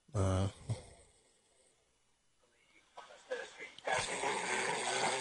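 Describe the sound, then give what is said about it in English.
A man, someone's husband, snoring: a short, throaty snort and a quick second one, a quiet pause, then a long, loud, rasping breath that carries on to the end. “I'd like to compare, somebody's snoring my wife's snoring.”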